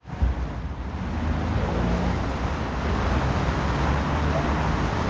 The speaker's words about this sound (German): Fließender Verkehr auf einer Hauptverkehrsader wie hier der Bürgerstraße, den soll die Stadt Göttingen zukünftig wieder zuverlässiger sicherstellen.